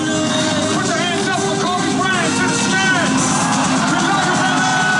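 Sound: concert crowd cheering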